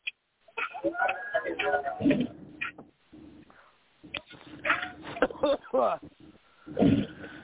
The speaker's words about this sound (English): Oh, excuse me, you guys. Jeez, I got a cough. I'm sorry.